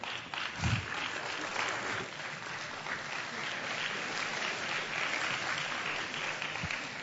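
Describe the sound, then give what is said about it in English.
A standing audience applauds steadily for about seven seconds, a dense, even wash of clapping with a few faint voices mixed in and no clear pauses. “Shall we all stand and give her a round of applause as well?”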